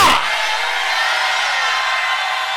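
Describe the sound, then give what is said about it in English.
A large crowd erupts in loud, sustained shouting of hallelujah in praise of the Lord, answering a preacher's call, a dense wall of many voices that holds steady for a few seconds without a single voice standing out. “Somebody shout hallelujah!”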